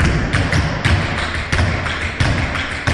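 Sharp, clattering taps of tap-dance shoes strike in quick, uneven bursts over a dense, steady wash of background noise, with no voices.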